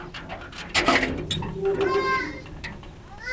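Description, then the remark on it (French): Goats and sheep bleat repeatedly under a fairly large farm shed housing many animals together, several overlapping wavering calls, with background farmyard clatter and a voice or two murmuring underneath. “on élève poulet, pintade, canard, dindon, pigeon, cabri, mouton. Tous ensemble.”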